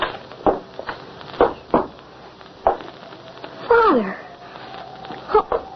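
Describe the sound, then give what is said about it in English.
A dog whimpers once in a high, sliding whine that drops in pitch, surrounded by several short, sharp sniffs and bumps. No one speaks. “Your whimpering will not help.”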